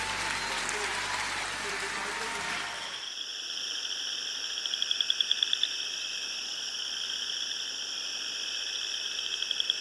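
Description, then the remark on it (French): A dense, steady chorus of crickets chirping in high, shimmering tones, with quick pulsed trills, following a few seconds of broad rushing noise at the start. “Le chant des grillons, pour ouvrir une chronique un peu particulière”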